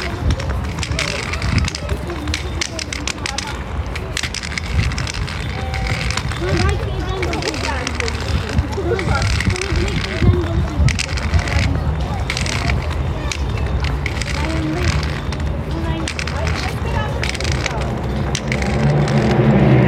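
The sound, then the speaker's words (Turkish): Two cars pass at once along a small road running parallel to a main road, a steady rumbling whoosh with wind buffeting the microphone, while people talk over the traffic noise. “Ya buradan da arabalar geçiyor ama az geçiyor. Şimdi tabii iki tane birden geçti.”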